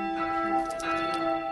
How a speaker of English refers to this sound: All right, we're putting the four up. He's taking up the four. Four goes up. What I do is just swing the bell. And each swing, it goes a little bit higher.